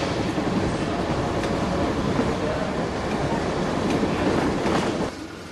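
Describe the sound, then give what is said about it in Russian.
A military train rolls past a striped-barrier level crossing, a flatcar carrying soldiers, tanks and guns, with a steady, dense rumble and clatter of wagons that holds at an even loudness for about five seconds, then drops off abruptly near the end. “Андрей в кепке немецкого солдата сидит за рулем автомобиля и внимательно смотрит на проходящий мимо состав.”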